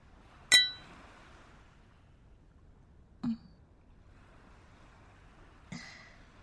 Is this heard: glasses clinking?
yes